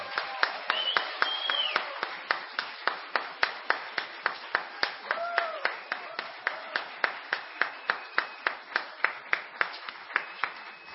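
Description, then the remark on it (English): Steady, evenly paced clapping for a sound technician at the close of an evening of performances at a feast, about three or four sharp claps per second, keeping a regular rhythm for the whole stretch, with faint voices and whistle-like tones murmuring underneath. “I wonder as well, brethren, if we could have a rousing round of applause for our sound technician who has worked tirelessly all through the feast.”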